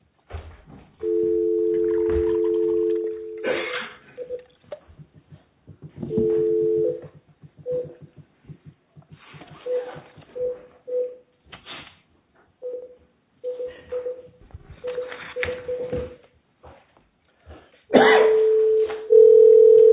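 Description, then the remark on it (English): A steady telephone dial tone sounds twice, then a rapid string of short touch-tone beeps as a number is dialed, ending with a sustained tone. The United States Court of Appeals for the Federal Circuit is placing a call for a case heard partly by phone. It is clear, with no talking. “The next case is going to be done in part by phone.”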